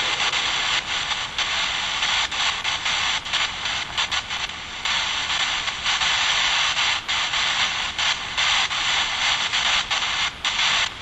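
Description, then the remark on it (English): Faint, irregular shuffling footsteps of someone in a locker room area, half-buried under a steady, loud hiss that runs through the whole stretch. No one speaks. “Heard footsteps. Like somebody over in the locker room area.”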